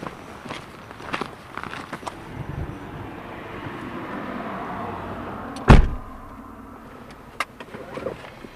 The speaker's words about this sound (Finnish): Joo, nyt alkaa olla vähän niin, että mulla on enää laita kaupungin maantien reunassa. Ja se siitä. Auto näkyy jo.